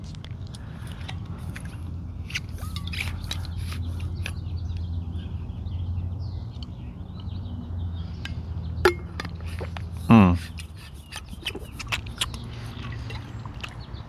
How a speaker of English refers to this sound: I'm going to need to stop here and get a drink of water.